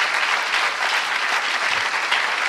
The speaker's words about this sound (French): On peut les applaudir et on vous remercie pour votre aide.